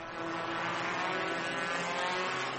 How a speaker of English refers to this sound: It's incredibly boring just watching the cars go around and around the track, and I can hardly breathe because of all the smoke and fumes.